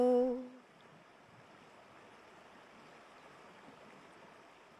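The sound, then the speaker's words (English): The River Bewley near Inverness flows with a steady, continuous rushing and burbling, even and moderately quiet throughout, just after a brief tonal note fades out at the very start. No voices. “was walking by the River Bewley near Inverness”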